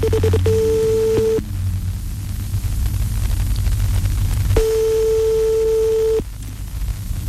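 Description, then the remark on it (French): A telephone ringing tone, the second ring of a call placed by the radio station Radio Arc-en-Ciel to a listener for a birthday greeting, sounds in two steady, mid-pitched electronic bursts, a short one and then a longer one after a pause, over a constant hiss and low rumble on the line. “Deuxième sonnerie.”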